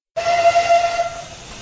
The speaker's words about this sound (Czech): Součástí oslav Masarykova narození bylo vypravení zvláštního parního vlaku s Masarykovým saloním vozem.